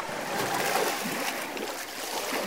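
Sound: water splashing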